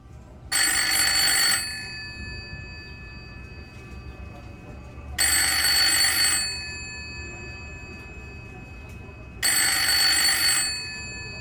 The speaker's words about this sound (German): Da läutet am späten Abend des 16. Oktober das Telefon. Am Apparat ist ein Freund von Ingeborg Bachmann aus Malta, der sich schon einmal gemeldet hat.